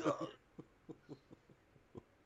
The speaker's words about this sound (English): I'm sorry that the mere mention of the transition to Cynthia like elicits such a coughing fit in you. I'm like, moving on to Cynthia, you're like...